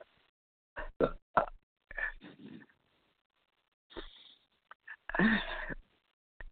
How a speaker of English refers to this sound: I always have to belch. When I get on my program, I can go for days without belching. They just come on every time I go to read to you all.